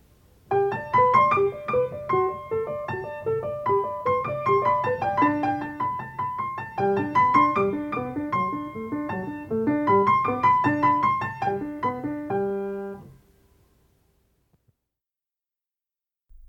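A solo piano piece with a bright, stepwise right-hand melody over steady lower accompaniment, played at a moderate tempo for about thirteen seconds before the final notes ring out and fade to silence.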